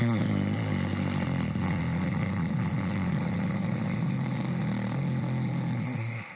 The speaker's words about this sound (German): Brahmari, die Biene. Eine Atemübung, um alle Spannungen aufzulösen, ein harmonisches Pulsieren zu schaffen. Atmet vollständig aus. Atmet ein mit dem Schnarchklang.